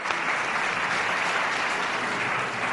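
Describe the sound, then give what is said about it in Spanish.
Steady, dense applause from an audience for the choral group Ronda Aguilar, a continuous wash of many hands clapping at an even level throughout, with no voices rising above it. “Pues vamos a dar un aplauso a los amigos del grupo coral Ronda Aguilar.”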